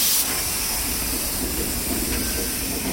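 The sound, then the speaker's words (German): A steady, loud diesel locomotive rumble with a broad hissing wash on top, the low engine drone holding constant throughout with no talking, as the locomotive pushes freight wagons from behind up a small hump (Ablaufberg), over which they roll down on their own. “Von hinten kommt jetzt der Diesellok und schiebt die Wagen einen kleinen Hügel hoch.”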